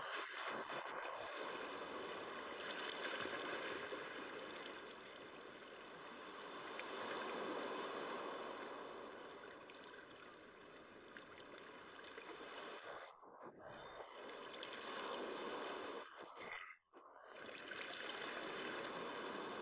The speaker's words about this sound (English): The undertow gently lifts you up, and you let yourself go so that you float on the surface. You float in a state of weightlessness, lulled by the lapping of the water.